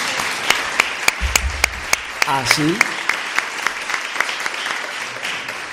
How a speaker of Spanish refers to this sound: Den un aplauso, pueden dar un aplauso.